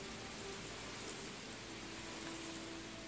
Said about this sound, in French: Oui, la pluie tombe, mais peu importe.